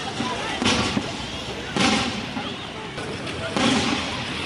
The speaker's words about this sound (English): Gunfire has been heard in the city centre as the Rwandan-backed rebels close in, despite attempts by the Congolese government forces to fight them off.